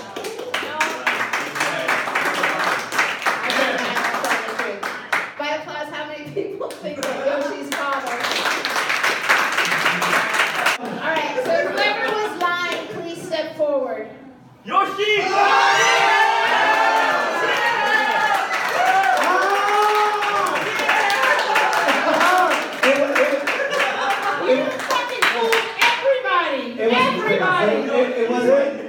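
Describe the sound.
A crowd claps and cheers loudly for several seconds, pauses briefly, then bursts into an even louder round of applause with shouting voices mixed throughout.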